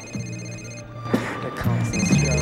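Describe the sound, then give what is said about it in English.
A mobile phone on a table in a club rings and lights up with an incoming call, steady electronic ringtone tones, moderately loud, while muffled voices and background noise mix in underneath. “her mobile phone lights up on a table in the club, showing that Reese is calling”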